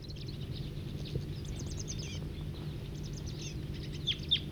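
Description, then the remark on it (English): Busy, overlapping wild bird calls from crossbills and a siskin, with crossbill song phrases and quick high chirps and trills repeating throughout over a steady low rumble, a couple of sharper notes standing out near the end. “This is Wild Birds.”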